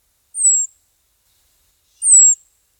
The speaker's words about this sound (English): Bohemians are bigger and slightly grayer than the local cedars, with more colorful markings on the wings and red under the tail. Their trilling call is much lower pitched and more rattling than the dog whistle calls of cedar waxwings.